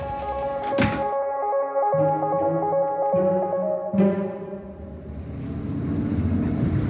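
A bus engine drones steadily with continuous low road rumble, a couple of sharp thumps breaking through near the start and middle, and a deepening rumble toward the end. No one speaks.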